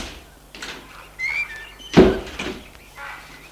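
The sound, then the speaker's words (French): Car doors being handled as people get out of a car with their luggage: faint clicks and rustling, then one loud, solid thunk of a door slamming shut, followed by quieter shuffling. Brief high chirps sound early on. “Ils sortent de voiture en prenant leur bagage.”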